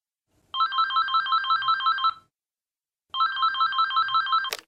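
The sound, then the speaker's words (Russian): A telephone rings twice, each ring a rapid electronic trill lasting about two seconds, separated by a short pause. It's clear, and the second ring cuts off with a click. “Разговор по телефону.”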